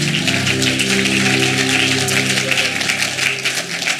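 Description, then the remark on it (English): A church audience claps together to give the Lord a great hand clap, a dense, steady wash of applause lasting several seconds, loud and continuous, with sustained low musical tones held underneath. “Put your Bibles down and give the Lord a great hand clap, and you may be seated.”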